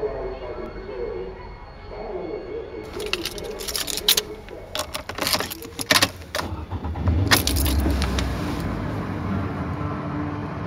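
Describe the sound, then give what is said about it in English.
Someone gets into a car: keys jangle, clothing and the seat rustle, a door thuds shut, and a low engine rumble rises near the end. “The moment I get in the car, I start commenting on what I remember, like, automatically, like, on cue.”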